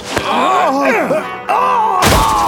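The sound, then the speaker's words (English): A man hurled through the air slams hard into a wall, the wind knocked out of him: a short thump, a drawn-out groan that bends up and down in pitch, then a heavy, booming crash with a rumbling low end. “He crashed against the wall and the air left him.”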